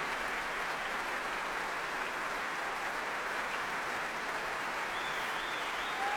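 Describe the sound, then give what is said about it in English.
Sustained applause from a large concert audience at the Proms as violinist Nicola Benedetti returns to the stage with Donald Ronicles, a dense, even wash of many hands clapping at steady loudness throughout, with no voices standing out. “She lifts her violin and claps the members of the orchestra facing them, smiling broadly, still clapping them.”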